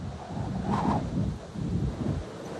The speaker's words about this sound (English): A blizzard. It's cold and windy and snowy, and it's really hard to get around.